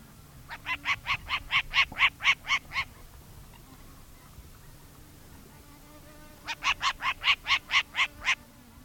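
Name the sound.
short-eared owl call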